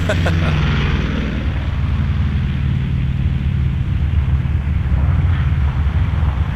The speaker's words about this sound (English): Yes, I liked sounds as much as music. And one of the sounds I loved as a kid was the sound of a squadron of B-36 bombers.